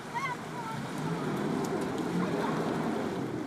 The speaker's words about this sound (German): In der Altstadt von Sanaa baden Kinder im Wasser, sie haben Spaß dabei. Aber die Wassermassen, die sich hier ihren Weg durch die jemenitische Hauptstadt suchen, sind eine Gefahr für einzigartige historische Bauwerke.